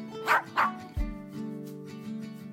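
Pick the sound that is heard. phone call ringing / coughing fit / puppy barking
puppy barking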